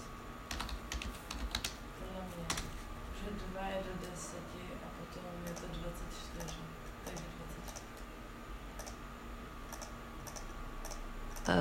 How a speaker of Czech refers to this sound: Pro ty na audionahrávce právě si v Googlu klikám do kalkulačky.